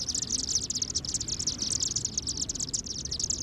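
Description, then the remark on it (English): A flock of chimney swifts chatters as it descends into a chimney, their communal roost site for the night, a dense, continuous stream of high-pitched twittering chirps over a low rumbling wash of background noise, with no voices. “We've just witnessed a flock of chimney swifts enter their communal roost site for the night.”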